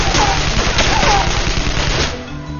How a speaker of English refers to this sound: After giving the assault rifle a quick once-over, he stepped in front of the opening. Making no attempt to conceal himself, he fired into the culvert from the hip.